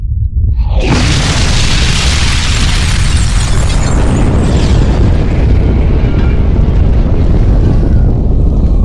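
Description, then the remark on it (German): A warhead detonates 7 kilometres above a city: a massive explosion erupts suddenly after a brief quiet moment, then rolls on as a loud, sustained roaring rumble with heavy low-end and wind-like turbulence that slowly thins out. “Der erste Sprengkopf ist detoniert. 7 Kilometer über der Stadt.”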